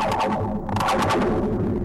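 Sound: bridge vibrating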